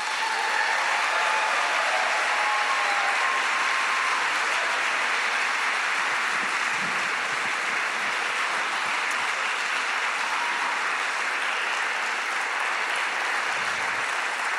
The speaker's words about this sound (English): Instead, I'll just say how honored we are to have one of the true rock stars of innovation with us tonight. Please welcome with wild applause to the stage, Mr. Joey Ito.